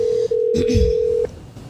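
A steady, mid-pitched telephone tone hums for just over a second as a phone call is placed, broken once by a tiny gap, while a brief low muffled sound passes underneath before the tone abruptly stops.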